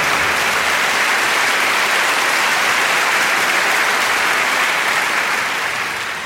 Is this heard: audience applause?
yes